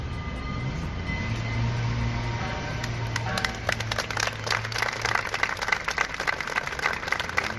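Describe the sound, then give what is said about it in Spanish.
A low, steady rumble with a faint hum opens, then a crowd breaks into applause partway through, the dense clapping building and continuing to the end with no voices. The applause follows a moment of silence at the doors of town halls in the Region of Murcia, Spain. “Minutos de silencio y aplausos como este, por ejemplo, a las puertas de los ayuntamientos y también en la sede del Gobierno regional, han sido hoy la tónica esta mañana en memoria de las víctimas y en solidaridad con los heridos.”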